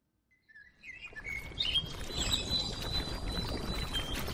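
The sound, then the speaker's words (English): Birds chirp and sing in bright, overlapping calls in the evening at a makeshift park near the Amadou Ahidjo Stadium in Yaoundé, above a steady low rumble of outdoor background noise, rising quickly from silence and continuing without any talking. “It is evening in Yaoundé and birds sing at a makeshift park near the Amadou Ahidjo Stadium, one of the sites of the 2016 Women's Football Africa Cup of Nations.”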